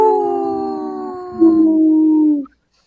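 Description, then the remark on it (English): A dog lets out one long, steady howl, fairly loud, holding its pitch for a couple of seconds before sliding slightly down and cutting off. “Howl!”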